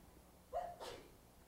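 A single quick sneeze, a brief voiced catch followed by a sharp breathy burst, against a quiet background with no talking.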